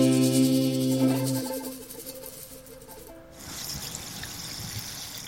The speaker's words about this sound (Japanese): 聞こえたかな。今年も炭酸水の季節がやってきました。炭酸を今入れたからシュワシュワしてるね。